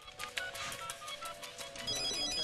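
A woman's phone rings on an outgoing call, a series of short electronic tones repeating over busy background noise, with no one speaking.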